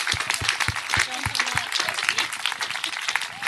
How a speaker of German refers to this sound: Dafür brauchst du einen Applaus. Super.